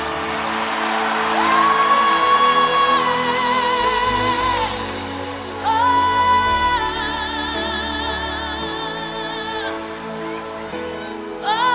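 A large audience shouts and screams the name of Jesus together in loud, sustained cries at a preacher's call, rising in two big surges a few seconds apart, with a low hum of voices underneath.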